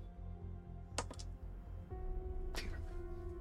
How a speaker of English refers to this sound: Well, glad I dug for those dice. That is a 4.